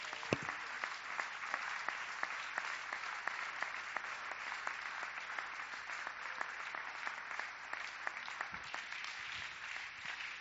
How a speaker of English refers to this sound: Give the Lord a hand clap for about 20 seconds while I tie my shoe.